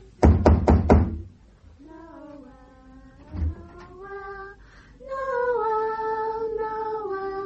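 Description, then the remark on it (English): Four quick, loud knocks on a door in a steady rhythm, then one more dull thump, while sustained singing voices of Christmas carol singers at the door rise and carry on afterward. “Shall I go to the door?”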